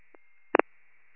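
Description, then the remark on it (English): A call back to the calling party fails to connect: a faint brief blip, then a louder pair of quick electronic beeps over a thin telephone-line hiss, with no voices. “T-46, his phone's not connecting.”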